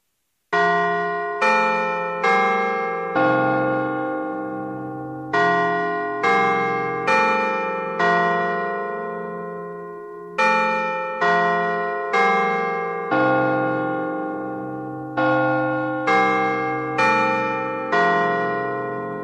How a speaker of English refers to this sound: The BRG Carillon will strike the hour at selected intervals with atomic clock accuracy.